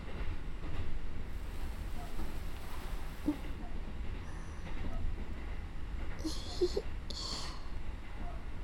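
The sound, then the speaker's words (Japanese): Steady low rumble of a crowded moving train heard from inside a carriage, with continuous rattling and faint hissing bursts, an enclosed interior ambience with no clear talking. “こうやって合法的に外でイチャつけるのも、満員電車の長所だよね。”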